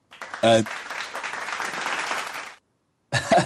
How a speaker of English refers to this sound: claps all round for those winners.